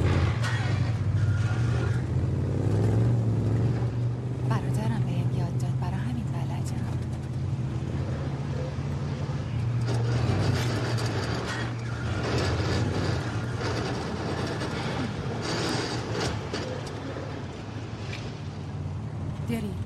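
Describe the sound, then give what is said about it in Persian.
A manual-transmission car's engine drones steadily throughout, its low hum rising and dipping in pitch as it revs through gear changes, with rushing road and wind noise layered over it. “فکر کنم زود دندر عوض میکنی.”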